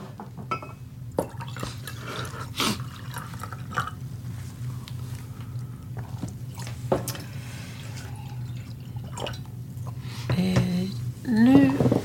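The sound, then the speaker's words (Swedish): Water runs into a glass or bottle, with faint drips and clinks; near the end the filling tone rises steadily in pitch as the vessel fills up, over a low background hum. “Ja, vi tar en paus och hämtar lite vatten.”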